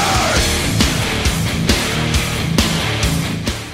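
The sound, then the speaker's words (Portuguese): Loud, dense rock music as if from a live concert: heavy drum hits land in a steady beat beneath a thick wall of distorted guitars and bass, with no voices. “Ou de um show de rock.”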